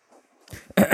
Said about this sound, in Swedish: Ja, jag ska prata, gud! För jag harklar mig.